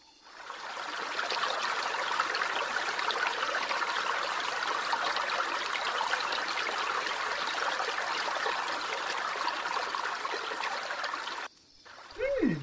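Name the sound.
flowing river water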